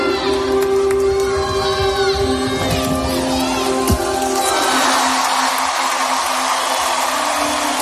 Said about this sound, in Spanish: Porque para emocionante está esa ovación que recibía Simone Biles, la gimnasta norteamericana, que ha sido uno de los nombres propios de estos Juegos.